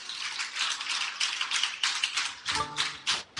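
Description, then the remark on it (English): An audience, asked to clap 11 times if they can hear the speaker, claps together in unison, roughly eleven crisp, bright claps in a steady rhythm, each a loud burst of many hands slightly out of sync, with no talking. “If you can hear me, clap 11 times.”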